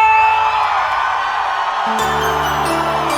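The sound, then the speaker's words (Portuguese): A loud crowd shouts and cheers in a continuous, dense roar, with music kicking in underneath toward the end. “cadê o grito da galera?”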